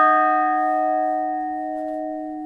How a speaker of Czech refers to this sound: A když už jsme tady u vás v Muzeu zvonařství, jsem tu obklopena zvony. Asi bychom měli některé rozeznít.